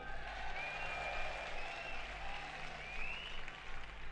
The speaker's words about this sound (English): So why don't you give him a round of applause?